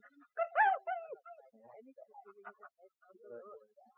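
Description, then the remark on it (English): A dog named Mike, being trained to search for a hidden decoy, gives a couple of loud, sharp barks, then trails off into softer, broken whimpers and whines that fade over the next few seconds. “No, no bark.”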